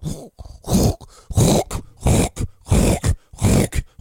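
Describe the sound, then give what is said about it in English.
A person loudly mimics a dog's reverse sneeze with a rapid series of harsh, snorting, grunting gasps in a steady rhythm, with no other talking. “Has anybody ever experienced that with a dog? The reverse sneeze.”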